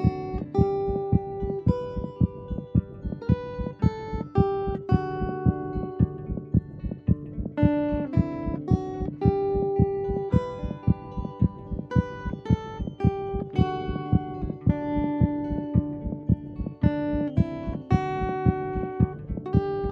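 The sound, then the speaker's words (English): A patient's steady, soft thumping heartbeat, recorded at Helen DeVos Children's Hospital in Grand Rapids, pulses beneath a gentle instrumental melody. The heartbeat is set to the song, the two blended into one track that plays on at an even, moderate volume with no one talking. “records heartbeat recordings, patients' heartbeats set to songs.”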